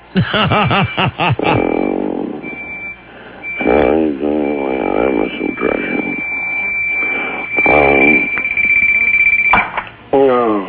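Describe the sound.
A high-pitched electronic alarm tone beeps in short bursts, then holds as a long steady whine, sitting faintly beneath people talking over it.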